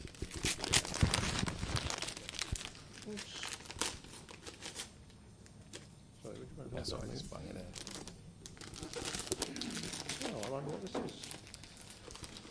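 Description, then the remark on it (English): Paper ripping and crinkling as the wrapping paper on a present is torn open in several loud, uneven bursts, with people talking quietly in the background. “Yeah, yeah, let's rip it open.”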